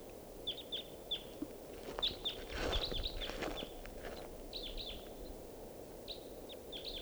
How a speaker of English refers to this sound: Wild Bird. Looks like a male. Song phrase.